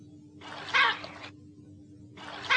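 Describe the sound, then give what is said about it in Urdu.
A monkey calls out in a harsh, screechy burst lasting about a second, followed after a pause by the start of another, loud over a low steady hum. “اچھا بندر؟”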